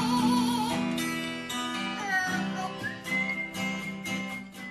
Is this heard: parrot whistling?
yes